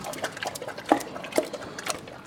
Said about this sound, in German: Und dann kriegen das halt die Schweine vermischt mit so Getreide, verschiedenen, so gequetscht und gepresst. Und das wird dann halt so ein Brei, so wie ein Haferbrei. So. Wir hören uns das mal an. Wie frisst denn so ein Schwein?